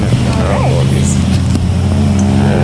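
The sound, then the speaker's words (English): A large truck engine idles steadily and loudly before being powered down, a deep continuous rumble with faint background voices mixed in. “We are gonna power down and go outside.”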